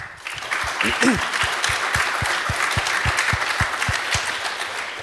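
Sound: conference audience applause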